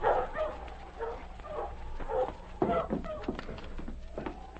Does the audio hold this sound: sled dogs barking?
yes